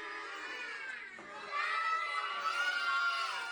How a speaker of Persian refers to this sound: یه دست بزنید براش.